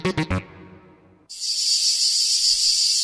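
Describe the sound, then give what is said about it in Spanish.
A few quick, thumping bursts open, then after a brief lull a cicada starts up with a loud, continuous high-pitched buzzing drone that holds steady to the end, in a promo for the UPB Ràdio show El cant de la Chicharra. “La Chicharra canta cada divendres en UPB Ràdio a les 4:30 de la vesprada.”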